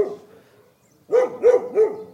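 A dog barks three times in quick, evenly spaced succession, close and fairly loud, following a brief faint whine-like tone and a moment of near silence.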